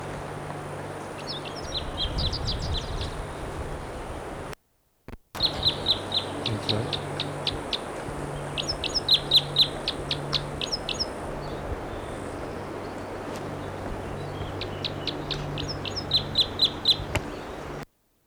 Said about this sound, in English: Bird's right in the tree above the camp.